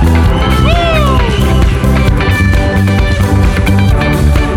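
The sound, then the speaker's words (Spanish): An audience shouts and cheers with love for Jesus one morning over loud, full worship music, with a few rising whoops near the start before the crowd noise blends into the steady band. “Dale un grito de amor a Jesús esta mañana.”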